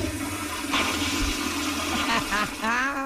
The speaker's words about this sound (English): We're just chatting away. I'm like, that wasn't a flush, was it? And it just was in my brain, and I didn't say anything out loud. I'm like, no, maybe she was getting in her car. Maybe it was the car engine turning car. Over.